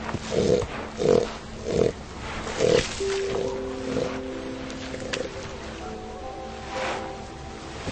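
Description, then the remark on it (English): Elephant seals call on a crowded breeding beach in the Falkland Islands, where females give birth to pups: a bull's deep, throbbing pulses repeat four times, then softer drawn-out moans and bleats overlap, over steady surf-like background noise. “Female elephant seals barely escape the male's attentions long enough to give birth to pups conceived here last year.”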